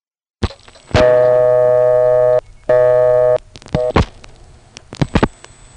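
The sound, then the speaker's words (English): A sharp click, then a loud, steady harmonic tone in two bursts with a short gap, followed by several sharp clicks and knocks: a payphone taking a dime and a call being dialed to a vacant number level in Gettysburg. “First, let's pick up the phone, put in a dime, and call a vacant level in Gettysburg itself.”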